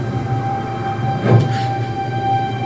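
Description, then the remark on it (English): A sliding advertising panel at a city bus stop shifts with one short whooshing slide about halfway through as it changes its display to the Bus Stop Films logo, over a steady low electrical hum with faint high tonal whines. No one speaks. “A sliding advertising panel on a city bus stop changes its display to the logo for Bus Stop Films, inclusive filmmaking.”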